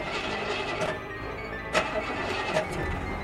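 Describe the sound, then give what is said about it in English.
A car engine cranks and turns over, then cuts out as a security system shuts it off when a thief tries to start the car; a rough mechanical churn with a few sharp clunks, heard for a few seconds with no voices. “And if that doesn't stop the thief, the engine will turn off when he tries to start the car.”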